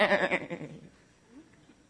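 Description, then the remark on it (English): A single goat bleats loudly, a wavering, quavering cry lasting just under a second before it cuts off into quiet background. “I can't believe how deep this hole, and they don't even get the sentence done, and a goat comes running by and dives in the hole.”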